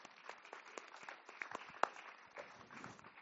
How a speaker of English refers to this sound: Oh my gosh, let's clap for that. Come on.